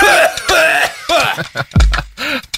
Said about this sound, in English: is coughing up the marijuana he just smoked.